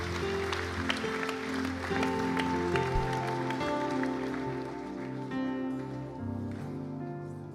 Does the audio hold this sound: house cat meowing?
no